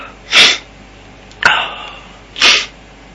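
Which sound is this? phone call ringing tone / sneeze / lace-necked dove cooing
sneeze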